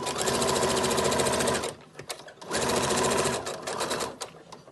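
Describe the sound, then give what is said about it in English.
A sewing machine whirs in two loud, rapid bursts of stitching as a volunteer sews cloth masks in Carterville, southern Illinois, separated by a brief pause with faint handling noise, running alone. “SideFX Public Media's Stephanie Whitesides visits one of those volunteers at work behind a sewing machine.”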